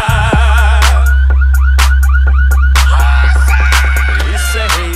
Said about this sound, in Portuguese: Os gravão pesado tão tremendo os carandá, e os alarmes das caminhonetes já começaram a disparar.